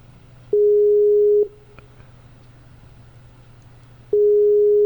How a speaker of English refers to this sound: I'm getting the typical James, typical Skype beep, which is there. And, okay, call to David James Vickery busy, probably because he was trying to call me.